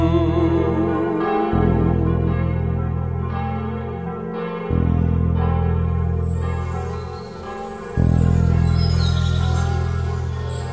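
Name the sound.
church bell ringing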